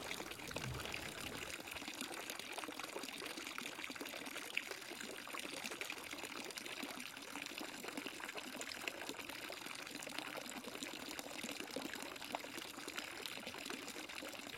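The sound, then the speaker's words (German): Steady pouring water runs continuously, a bright splashing stream from a fountain with hands being rinsed under it, with no speech over it. “Wasche deine Hände im Wasser des Brunnens.”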